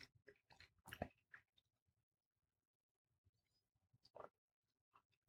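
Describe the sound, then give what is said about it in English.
Wet chewing sounds come in irregular bursts, with a louder crunchy stretch near the start and softer intermittent mouth noises after, as someone works through a bite of steak. “I got to chew my food up really good.”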